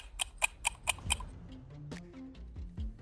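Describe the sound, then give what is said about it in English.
A clock ticks five times in a quick, even rhythm, crisp, then the ticking stops and soft sustained musical tones take over. “And probably a bit of a ticking clock.”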